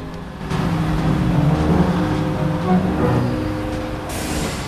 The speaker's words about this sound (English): Natalie reverses the truck away from the rink and leaves Chuck trapped in a massive mound of snow.